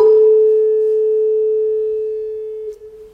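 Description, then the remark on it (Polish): A metal tuning fork hums a single steady, pure mid-pitched tone that rings on for about three seconds, fading only slightly, before a soft touch abruptly damps it. It is the second of two tuning forks in a physics resonance demonstration, sounding though not struck, set vibrating by sound waves from the first. No one speaks. “Drugi właśnie grał, chociaż w niego nie uderzałem. Fale dźwiękowe wpłynęły na ruch drgania metalu.”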